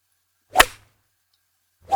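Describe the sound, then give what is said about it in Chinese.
A teacher's thin pointer cane whips sharply through the air twice, each a quick loud swish ending in a crisp crack; the second is cut off at the end, with silence between and no voices. “你最好给我如实回答，否则的话，我手里的教鞭可不是吃素的。”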